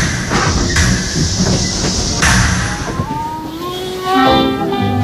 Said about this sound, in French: À 21h38, la SNCF est résolument à l'heure et le train de nuit part pour Paris.